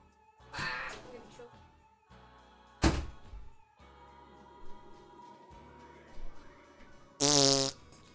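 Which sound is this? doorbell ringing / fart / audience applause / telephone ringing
fart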